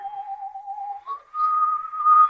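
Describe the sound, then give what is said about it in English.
A slasher whistles a slow tune somewhere in a building at 4:30 in the morning, holding one steady note before sliding up to a slightly higher, wavering pitch that swells louder at the end. No talking. “The slasher whistles that tune.”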